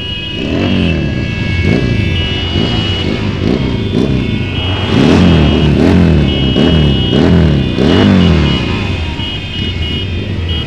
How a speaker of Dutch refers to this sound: Je bent met die motoren mee komen rijden?